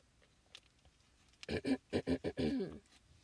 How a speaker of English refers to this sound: I'm sorry, I need a sip of water.